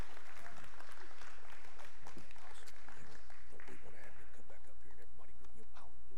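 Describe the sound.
A crowd applauds steadily for several seconds, a dense, continuous patter of many hands clapping at moderate volume, with faint voices and cheers mixed in.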